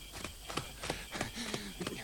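Quick, evenly spaced footsteps pound along at a running pace as someone runs out of a door and down a street, about seven sharp thuds in two seconds, moderately loud, with no voices over them.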